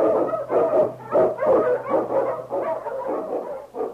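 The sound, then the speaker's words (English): Sled dogs in The Challenge of the Yukon, led by King, the Eskimo lead dog, bark and yip excitedly in a rapid, overlapping chorus as they blaze a trail through storm and snow for Sergeant Preston. The chorus is loud, with a steady low hum underneath and no talking. “The Wonder Dog King, swiftest and strongest of Eskimo lead dogs, blazes a trail through storm and snow for Sergeant Preston as he meets the Challenge of the Yukon.”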